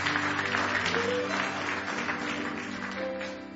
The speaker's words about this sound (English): God bless your heart this morning. Give each other a good hand clap of praise this morning.